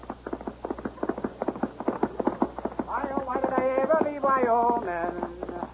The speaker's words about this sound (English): From out of the spacious west, blazing a trail swiftly through mountain, plain, and stream, comes the thundering hoofbeats of the great horse, Silverware.